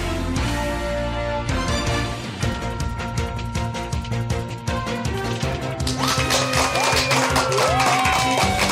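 Sustained applause, a dense wash of claps at steady loudness for about nine seconds, mixed with ringing tonal sounds and a few high whistle-like notes near the end.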